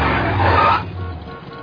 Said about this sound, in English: Lousy traffic jams.